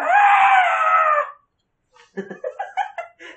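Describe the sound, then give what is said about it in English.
A person lets out a loud, strained, screechy roar for about a second, imitating a dragon as a game character's Draconic Roar, then after a pause gives several short, choppy vocal bursts. “Do you want to do the Draconic Roar?”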